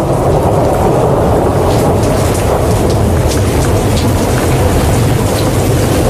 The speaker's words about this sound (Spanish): La Tormenta que escogimos hoy de sonido aquí en Universal Sónica.